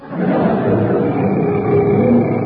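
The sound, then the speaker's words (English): A loud, sustained roar imitating a tiger, voiced by a person, rumbling steadily for a couple of seconds with a gritty, growling texture and no pauses. “That's a cannibal doing an impression of a tiger.”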